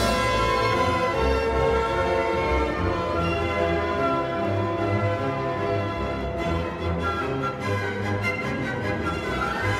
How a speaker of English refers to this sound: you hear those battle themes, and they're kind of like the dark bells of the Nibelheim flashback.